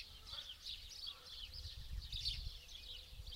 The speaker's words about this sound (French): Faites maintenant passer votre attention de la conscience de votre corps au bruit du dehors, le chant des oiseaux. Toute votre attention sur le chant des oiseaux au dehors.